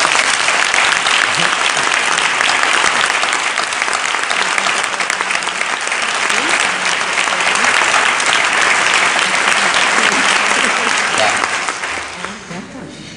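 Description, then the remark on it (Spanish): Sustained audience applause at a congress for its organizers, a dense, steady clatter of many hands clapping at an even loudness for about twelve seconds before tapering off at the end. “Así que me voy a saltar el protocolo y os pido un aplauso para cada uno de ellos.”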